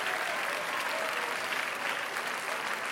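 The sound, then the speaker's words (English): An audience claps their hands unto the Lord in sustained, dense applause, many overlapping claps blending into a steady, even wash of sound for the full duration with no voices standing out. “Clap your hands once again unto the Lord.”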